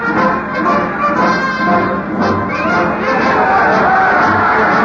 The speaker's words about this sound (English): Listen to them cheer, Diane. It's war. That's what they say, war.